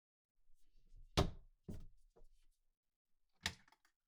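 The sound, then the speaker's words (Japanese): The door of an empty refrigerator in a love hotel room is pulled open with a sharp clack and a brief rattle, followed by a few softer knocks and another sharp clunk near the end, as if it swings shut. “で、こっちは冷蔵庫。”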